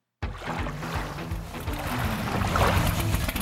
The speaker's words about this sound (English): From the shores of the Colorado River on the beautiful Parker Strip, you're listening to the Parker Livecast. You hear some gourds here.